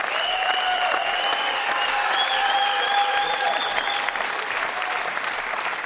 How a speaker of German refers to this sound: Tolle Aktion, also auch hierfür gerne noch mal Applaus.